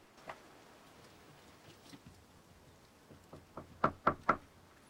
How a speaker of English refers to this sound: He walks along a path beside a well-kept flower bed, then up another set of steps into a front porch, where he tentatively knocks on a glass-panelled front door.